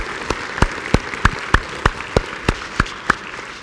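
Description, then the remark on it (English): A church audience applauds members of more than 25 years, a dense wash of clapping with sharp, evenly spaced claps standing out in a steady rhythm about three per second. No one speaks. “Can we give everyone just a round of applause?”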